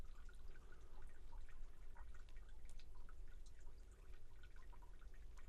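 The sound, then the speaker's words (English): Rain drops dripping from trees, falling in an irregular, scattered patter of soft individual plinks over a steady low background wash, with no voices. “I can hear the drops of rain actually just dripping from the trees.”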